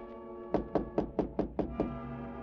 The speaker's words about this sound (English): And it was about a half hour later that I heard a tap on my door.